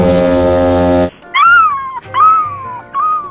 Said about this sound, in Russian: Слышите шум чаек, которые летают прямо над вами.